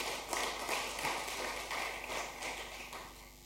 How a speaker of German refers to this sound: Vielen Dank an das Team. Lassen Sie ihnen mal einen Applaus geben. Dankeschön.